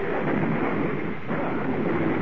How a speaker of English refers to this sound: Oh. You hear that? Sound like a car wreck outside. Merciful heavens. Sounded pretty bad to me. Hey, now look outside. It is a wreck.